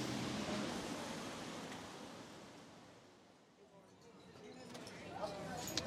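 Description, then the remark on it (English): Outdoor café street ambience outside the Café de Flore on the Boulevard Saint-Germain: a steady, broad wash of background noise that dips briefly midway, with indistinct voices and a few light clinks and clatters rising near the end. “Exterior. So, Kaz, to finish, we're sitting outside the Café de Flore”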